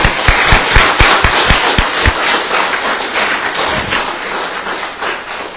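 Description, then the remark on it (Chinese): A church audience breaks into steady applause for a man, a dense wash of many hands clapping at a fairly loud level, with a few heavier thumps marking the first two seconds before it tapers slightly. “OK， 我们再给他一些鼓掌。”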